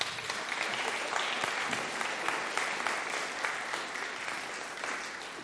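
Steady applause from an audience, a dense crackle of many hands clapping at a fairly even level for several seconds, with no voices over it.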